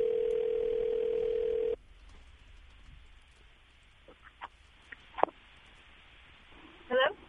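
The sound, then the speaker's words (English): A single steady ringing tone from an outgoing phone call lasts nearly two seconds, followed by quiet line noise with a few faint clicks and a brief voice at the end. “We could call …. Let's see if she answers the phone.”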